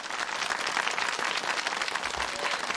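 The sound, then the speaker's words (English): A graduation audience applauds steadily as the valedictorian is introduced, a dense wash of many hands clapping at once that stays loud and even throughout, with no voices standing out. “Corey, you're not clapping.”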